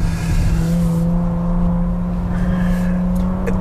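A Bentley Bentayga Speed SUV with 22-inch wheels, braking in sport mode, its engine rumbling loudly in a steady, deep drone with a faint rise in pitch near the end and no voices.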